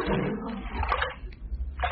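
water sloshing

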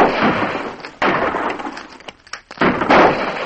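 gunfire

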